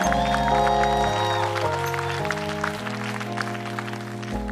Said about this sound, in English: Can we just get a round of applause for our Lord and Savior, Jesus Christ?